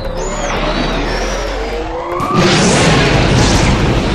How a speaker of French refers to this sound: Les moteurs du cargo s'allumèrent. Des flammes immenses, une lumière intense projetée derrière l'engin.